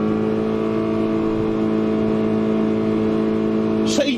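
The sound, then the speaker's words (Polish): A car's 3-litre V6 engine drones loudly and steadily as the car accelerates in reverse gear during a second speed test run, its tone holding a strained, whining pitch throughout, with a brief higher rasp near the end. “jest to silnik 3-litrowy V6, to była pierwsza próba, a teraz robimy drugą próbę na biegu wstecznym, robię manewr cofania”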